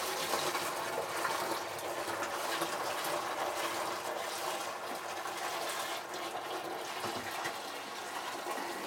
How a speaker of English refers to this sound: So I shall pour about 3/4 of a full bucket of hot water into the fast ferment. There we go.